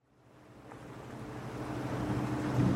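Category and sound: vehicle, boat moving on water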